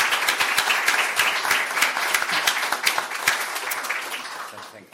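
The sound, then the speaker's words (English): A crowd applauds a report and the panelists steadily for about five seconds, dense overlapping claps forming a loud, bright wash that holds level and then gradually tapers off at the end. “And I think it's time now to have an applause”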